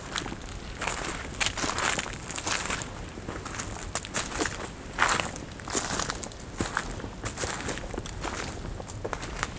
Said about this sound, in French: Debout, tout petit, face à ces troncs d'arbres, de plusieurs dizaines de mètres de haut. Le doux crissement des feuilles mortes.